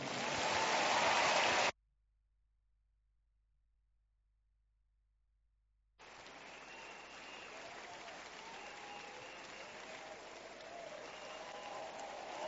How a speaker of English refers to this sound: Thank you, Jesus. If that clap is for Jesus, will you make it bigger, please?